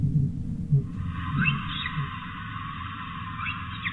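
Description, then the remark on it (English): Faint, high orca whistles sweep upward a few times over a steady underwater hiss, recorded during a whale survey as the orcas move around in the south. A continuous low rumble of ocean noise runs beneath. “And finally the whistle of the odontocetes, the orcas, moving around quite a bit in the south.”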